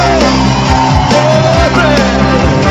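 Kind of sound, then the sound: crowd, audience shouting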